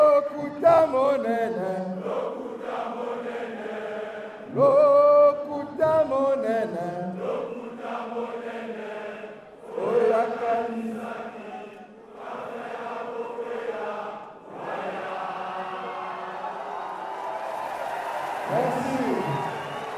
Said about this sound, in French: Guy-Brice Parfait-Colella a choisi le palais des congrès de Brazzaville, pris d'assaut par des milliers de partisans, d'autres jusque sur le boulevard, pour annoncer sa candidature. Et quand il le fait, la foule jubile.